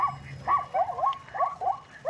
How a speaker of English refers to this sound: But they kind of chirp and bark at the same time. It's they got zebras at the Hattiesburg Zoo. I'm gonna go poke one, make him say something. That's a zebra. That's wild. Yeah, they kind of bark.